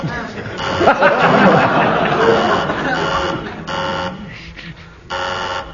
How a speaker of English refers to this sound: Who buzzed my buzzer? I did. You lose marks for buzzing the buzzer.